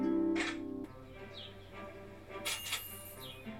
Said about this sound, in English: Damn birds.